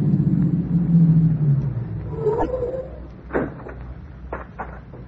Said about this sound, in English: Here comes a squad car. Girl in with the driver. It must be the phone operator.